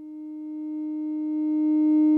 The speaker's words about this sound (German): Sie hören jetzt links den Sinuston, rechts hören Sie mich in das Mikrofon hineinsprechen. Das Mikrofonsignal bewirkt überhaupt keine Veränderung an der Tonhöhe des VCOs, sein Pegel ist viel zu niedrig.